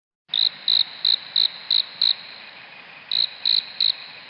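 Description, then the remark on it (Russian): A cricket chirps in a steady, evenly spaced rhythm: six bright, high-pitched pulses, a short pause, then three more, clear over a quiet background. “Эти звуки знакомы каждому с детства, и все знают, что издает их сверчок.”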